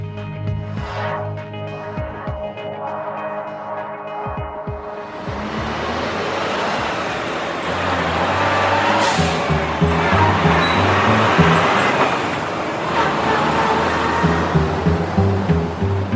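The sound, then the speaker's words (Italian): Steady road noise from passing vehicles and trucks in Oensingen, including trucks coming and going from Bell, Coop's meat-processing plant, starting with a low engine drone and swelling into a broad, continuous roar of traffic that stays loud throughout. No one speaks. “Quindi lì viene macellata la gran parte della carne, quindi il viavai di camion per questa azienda, ma anche per altre che approfittano della situazione logistica centrale di Oensingen, anche generano traffico.”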